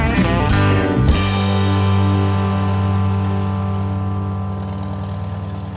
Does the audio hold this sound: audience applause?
no